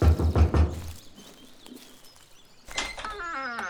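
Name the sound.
knocking on a door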